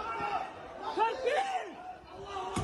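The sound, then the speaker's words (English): A crowd carrying Palestinian flags rushes through an airport in Dagestan, many overlapping voices shouting and chanting "Allahu Akbar," rising and falling in ragged, excited cries that stay fairly loud throughout. “You can hear the Allahu Akbars, of course.”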